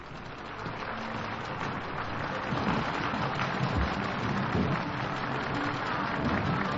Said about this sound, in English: Miklos Rozsa acknowledges the applause of the audience, turns to the orchestra, and we're ready for the first work on tonight's edition of Symphonies Under the Stars.